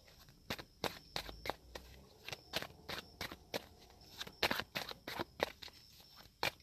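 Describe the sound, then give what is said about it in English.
A mermaid-themed card deck being shuffled by hand to draw one card, a quick irregular series of sharp papery slaps and riffles, fairly quiet, with no talking. “Also, what I want to add, though, because while I'm shuffling, I'm like getting a feeling”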